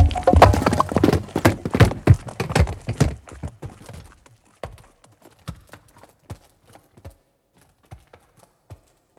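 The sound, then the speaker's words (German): A donkey's hooves clip-clop in a quick, steady rhythm as it is ridden and urged on, dense at first, then thinning into sparser, fainter hoofbeats as the animal moves off. No one speaks. “Ich trieb den Esel an. Im Vorbeireiten hob ich meinen Fuß.”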